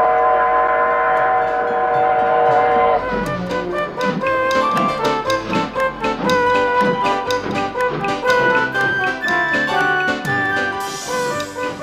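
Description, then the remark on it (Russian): A train sounds a long, steady horn, then loud wheels clatter in a regular rhythm as the train pulls away from a station platform, with a high whistle near the end. “И поезд помчался.”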